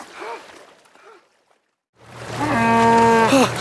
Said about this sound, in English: Come on, you dopey cow. Get those back legs on the bank.